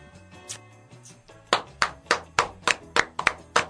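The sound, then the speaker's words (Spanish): Brief applause for radio announcer Antonio Carrizo: after a few faint taps, sharp hand claps start and continue in a steady, evenly spaced rhythm of about nine loud claps, sounding like only one or a few people. “Sí, un aplauso a Antonio, che, que está muy mal Antonio.”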